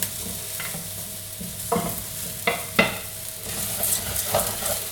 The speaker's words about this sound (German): ihr müsst es ständig umrühren, weil er euch natürlich ansonsten unten am Boden anbrennt. Deswegen seid ihr hier immer dabei und ihr rührt es so lange um, bis auch der Risotto-Reis schön glasig ist.